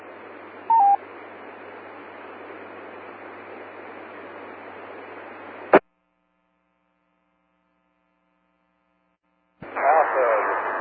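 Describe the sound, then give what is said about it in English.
A short, clear electronic beep from a radio beacon rises out of steady hissing radio static with a low hum, received by a team holding at grid location 46.5, 50; then a squelch click cuts to silence before the static returns. “we're at grid location 46.5, 50, holding, and we do have the beacon.”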